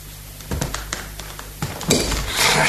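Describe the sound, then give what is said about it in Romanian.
A loaded revolver falls out of a pocket and hits a hard floor, giving several sharp metallic knocks followed by a brief, louder clattering rattle as it settles. No one speaks. “Ți-a căzut ceva din buzunar? Ha? Un revolver?”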